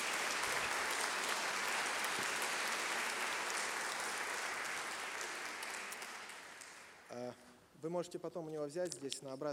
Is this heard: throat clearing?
no